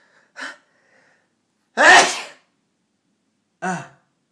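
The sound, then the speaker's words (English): One loud sneeze bursts out, with a short sharp breath before it and another brief breathy sound a couple of seconds later, silence in between. “I'm gonna sneeze again.”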